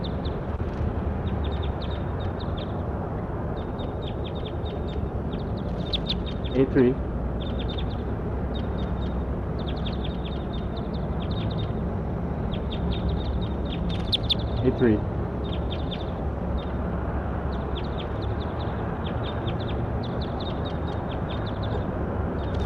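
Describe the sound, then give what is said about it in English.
A female bird, bird 83, being recorded, calls over and over in quick, high-pitched chirping bursts through steady background noise, with two louder, stronger calls standing out partway through. “I'll point 82 again as long as she's calling.”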